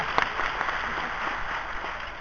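Steady audience applause, a dense crackle of many hands clapping at once, holding an even level for about two seconds with no voices over it.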